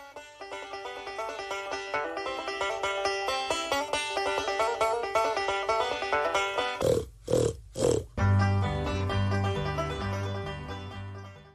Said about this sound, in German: In allen Ställen, Verschlägen und Koben, in allen Ecken und Winkeln, überall grunzten Schweine.